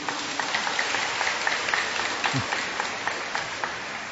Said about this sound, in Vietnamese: Bây giờ cái em áo xanh không còn ghế ngồi, phải đang ngồi dưới đất này, cho một tràng pháo tay hoan hô như em áo xanh ấy đi.